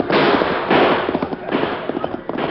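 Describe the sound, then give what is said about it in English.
A rapid, uneven volley of gunshots in a Lone Ranger radio drama shootout, loud cracking bursts mixed with smaller pops, with a muffled, narrow old-broadcast tone and no voices. “I'll shoot him.”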